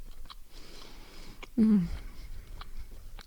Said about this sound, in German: Ja, auch mal Stille genießen, ne? Während ich kaue. und schmatze.